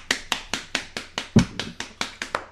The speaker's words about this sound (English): we have to applaud.